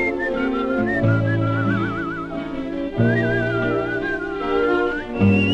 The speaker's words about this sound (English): who wasn't an instrumentalist, was able to, you know, work as if he were a horn player when he whistled, and he does it very well, very, very musical.